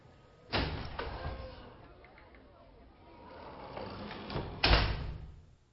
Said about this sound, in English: Here, let me open the door for you. If you don't mind, just let me touch the door, and I'll open it for myself. Saves running into a door that's somewhere I don't expect it to be.